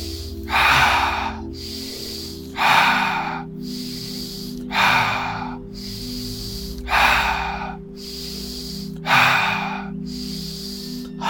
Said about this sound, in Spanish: Respiramos profundo, mantenemos respiración, relajamos hombros y caras.